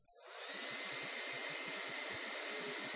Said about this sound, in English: And we're going to let this ping pong ball represent ourselves, and we're going to let this hair dryer represent the Holy Spirit in our life. And so what we'll do is we'll turn this hair dryer on.